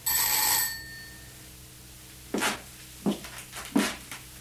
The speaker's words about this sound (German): Ah, hier ist eine Schelle. Ich werde schellen.